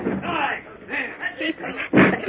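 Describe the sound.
A gang lets a door down on Batman and Robin with one heavy, booming crash near the end, after a stretch of muffled, indistinct voices and rumbling.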